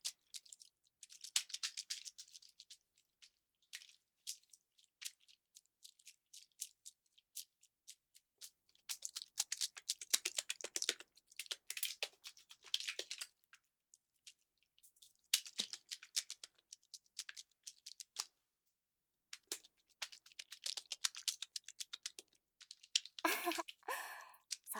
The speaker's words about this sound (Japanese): これはね、霧吹きを吹きかけている音なんです。化粧水とかをイメージしてもらえると分かりやすいかな。ほら、ちゃんとボトルの中に液体が入ってますよ。